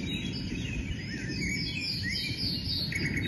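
Recorded birdsong is played continuously in a cow barn, a dense chorus of high chirps and trills over a steady low rumble. No one speaks.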